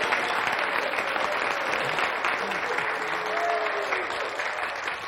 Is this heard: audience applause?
yes